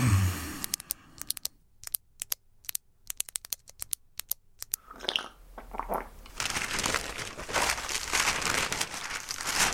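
Papery rustling and crinkling of a newspaper, starting with sharp, sparse crackles and building into a steady, dense rustle of handled sheets, with no voices.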